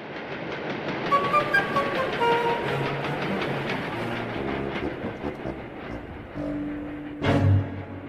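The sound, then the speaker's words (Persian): A train rumbles steadily along the rails with a dense, continuous roar and faint rhythmic clatter, brief squealing tones, and a louder low burst near the end as it grinds on. “دو و نیم بعد از ظهر قطار ایستاد.”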